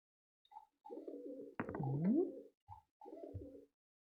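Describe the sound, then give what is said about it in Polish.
A pigeon coos in a short series of soft, throaty, rolling calls, several phrases in a row with brief pauses between, with no voices. “Tak właśnie gruchają gołębie.”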